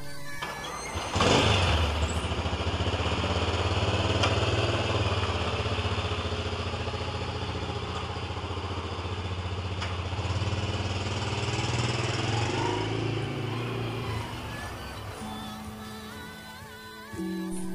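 A motorcycle engine kicks to life after a second of quiet, then settles into a steady, close, low rumble that keeps running, shifting slightly near the end as it pulls away slowly.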